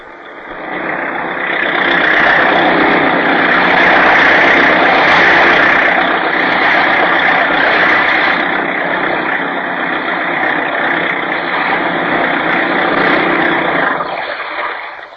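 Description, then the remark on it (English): A fast speedboat's new supercharged engine roars steadily at high revs for about fifteen seconds, loud, with a rushing, churning texture throughout before easing off at the end, as the boat skims along; its top speed is 40 miles an hour. “Fast boat, all right, Bruce. You skimmed along that time.”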